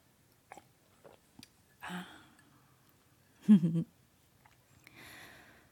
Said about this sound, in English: I'm just gonna take a sip of my cold mocha here and pretend like there's nothing to see here.